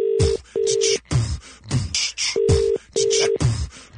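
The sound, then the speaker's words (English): Telephone dialing tones as a call is placed to a toy shop in Bury St. Edmunds: four short, steady electronic beeps in an uneven rhythm, separated by bursts of noisy crackle, fairly loud, with no talking. “Let's phone them now.”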